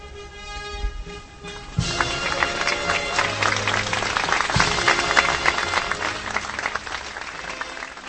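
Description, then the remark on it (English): Hundreds of guests and onlookers break into steady, dense applause as a white veil falls off a larger-than-life bronze statue outside Prague's main station, Czech Republic, after a short quieter opening with some murmuring, the clapping swelling and holding at a loud, even level with scattered voices underneath. “Hundreds of guests and onlookers applauded as the white veil fell off the larger-than-life bronze statue outside Prague's main station, formerly named after the US president.”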